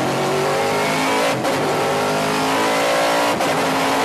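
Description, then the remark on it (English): A race car accelerates hard in first gear on a track straight, its rear tire spinning, the engine roaring loud, its pitch climbing with two brief dips as it shifts, no voices. “That'll just we'll come around the straight and you'll see in first gear it'll just light up the rear tire.”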